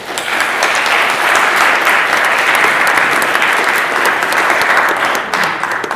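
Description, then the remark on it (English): Sustained audience applause at the end of a panel discussion, a dense crackle of many hands clapping at a steady loud level for several seconds with no voices breaking through. “Round of applause.”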